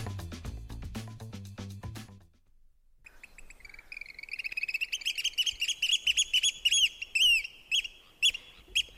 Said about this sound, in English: Quick, can anyone identify the bird making that sound? It's called the oyster catcher, and we're going to learn a lot more about them this hour, along with many other birds, shorebirds, raptors, and the like.